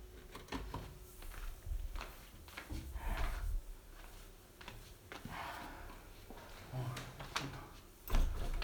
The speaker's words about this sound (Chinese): 好了，他来了，我去开门啊。